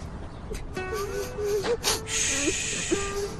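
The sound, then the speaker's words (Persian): Someone cries and sobs, catching sharp gasping breaths between wavering, high whimpering wails, with no words spoken. “بسته دیگه، گریه نکن، آروم باش.”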